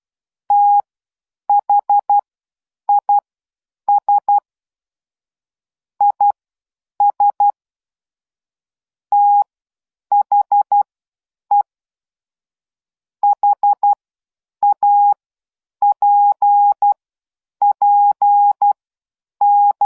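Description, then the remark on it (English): A coded message in Morse code beeped out in telephone-style tones: a single steady pitch switching on and off in short and longer bursts, grouped irregularly, loud and clear with no voices. “And there was our coded message.”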